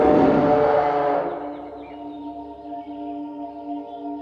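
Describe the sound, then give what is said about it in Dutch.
A loud, rough roar bursts out, then fades into a long, low, droning moan, like a big grazing dinosaur roaring goodbye, with no one talking. “Het voelt fijn en warm, terwijl de dino's achter ons nog lekker doorgrazen en zwaaien en doei brullen.”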